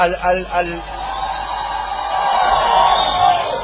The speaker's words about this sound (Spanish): Los de acá dentro de la sala permaneceremos en silencio y les pediremos a los que están allá atrás que griten.